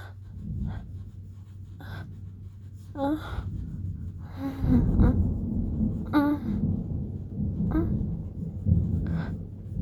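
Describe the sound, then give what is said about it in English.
Low rolling thunder rumbles steadily in the background, swelling louder midway, while a voice lets out breathy gasps and soft moans at intervals. “The thunder rolling, fucking roll into me, yes.”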